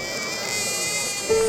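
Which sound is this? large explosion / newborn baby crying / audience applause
newborn baby crying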